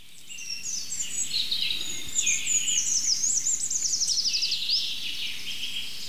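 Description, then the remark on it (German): A common chaffinch sings a bright, high trilling phrase that tumbles downward in pitch, repeated over a steady hiss of other faint birdsong, with no voices. “Jetzt fängt der Buchfink wieder an.”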